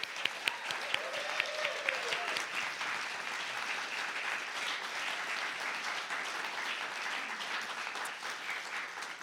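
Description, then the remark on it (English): A crowd claps steadily for several seconds for the musicians at a Vermont Public Vermont Edition show, a dense, bright patter of many hands at an even, sustained level, with a faint voice briefly audible early on. “So with that, let's give a round of applause to our musicians for being here.”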